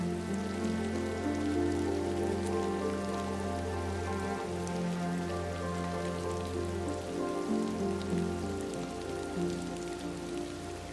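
Steady rain falls continuously, an even patter spread across the whole stretch, with a soft sustained tonal drone humming underneath and no voices.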